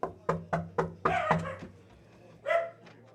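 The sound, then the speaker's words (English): Thor, a small dog, barks in a quick burst of five or six sharp, high yaps, pauses, then lets out one longer bark, over a low steady background hum. “lives with a little dog named Thor. This is Thor.”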